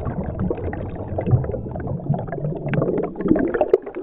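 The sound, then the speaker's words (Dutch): Muffled underwater bubbling and gurgling from a dive under water in the sea, a steady churning wash of low, murky sound with occasional louder bubble bursts, continuous throughout with no voices. “Want we nemen een verfrissende duik onder water.”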